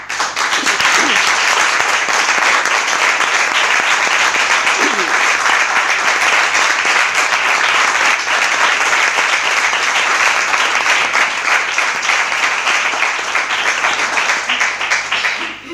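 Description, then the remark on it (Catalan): Sustained applause from all the groups and the people attending, given as a show of condemnation of recent events in Ceuta, a dense, steady wash of many hands clapping at an even loudness for about sixteen seconds, with no one speaking over it. “S'entén l'aplaudiment de tots els grups i de les persones que ens acompanyeu.”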